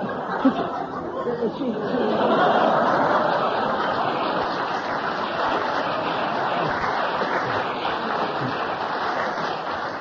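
An audience applauds steadily for about ten seconds, a dense, even crackle of many hands clapping, with a few scattered laughs and murmurs mixed into the ovation.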